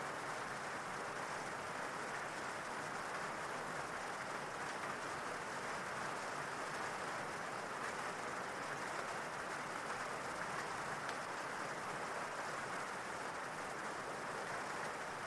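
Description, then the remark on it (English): Steady rain falls without a break, a soft, even hiss of countless drops with no pauses or louder hits. It stays constant throughout, with no voices. “Imagine that rain washing away any negativity of the day as you relax more and more.”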